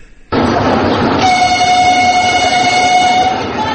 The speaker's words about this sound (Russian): Без малого 4 месяца на Сухумском вокзале не слышали гудков пассажирских поездов.